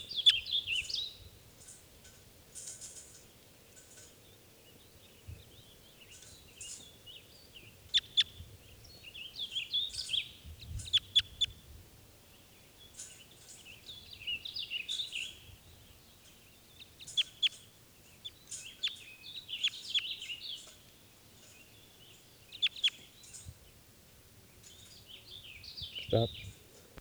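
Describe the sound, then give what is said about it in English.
Wild birds taking off call and chirp in busy, overlapping bursts, high-pitched and moderately loud, repeating throughout over a low rumbling background, with no one speaking. “Other birds have taken off, and there's a single lone male here.”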